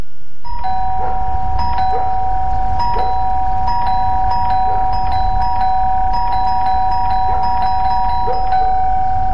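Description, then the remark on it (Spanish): A doorbell rings over and over in quick, slightly uneven bursts, its bright chime tones sustained above a steady low rumbling background, with no one speaking. “¿Escuchaste eso? El cyber de Sodimac está tocando a tu puerta y tu casa lo sabe.”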